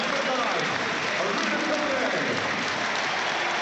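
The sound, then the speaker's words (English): Steady applause from a large stadium crowd at an Everton football match as Aruna Kone comes on as a substitute and Kevin Morales goes off on a stretcher, a dense wash of clapping that holds at an even, fairly loud level throughout with a murmur of voices beneath it. “Kone gets a good reception and warm applause as well for Morales going off.”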